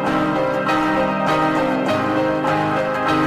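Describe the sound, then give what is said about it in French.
A school bell rings steadily and loudly for a few seconds, its bright tones repeating in a regular rhythm, with no one speaking. “Tu vas être contente d'apprendre, maman, qu'aujourd'hui toutes mes nouveaux amis vont toutes m'attendre après la cloche.”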